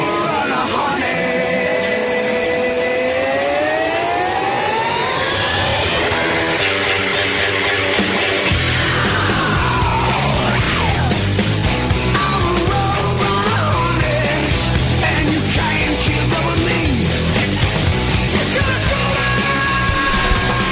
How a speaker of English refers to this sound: You feel like letting the scream out like that?